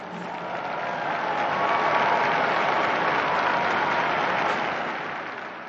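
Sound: applause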